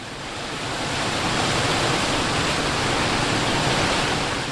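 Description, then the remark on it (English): The Little River roars down a 50-foot waterfall in a national preserve: a steady, dense roar of rushing water pours down without a break, loud, fading in at the start and holding a constant hiss across the whole stretch. “Believe it or not, that's the Little River roaring down a 50-foot waterfall in what's now a national preserve.”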